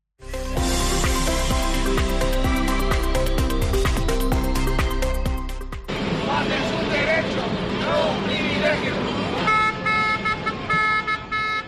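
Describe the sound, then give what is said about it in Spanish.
A loud protest by members of the CESIF union pressing their demands at the door of the government subdelegation: sustained, blaring horns with rhythmic repeated blasts, then a noisy crowd of shouting voices as steady horn tones return near the end. “Lo que escuchas son los miembros del CESIF que hoy nuevamente han vuelto a reivindicar sus peticiones en la puerta de la subdelegación del gobierno.”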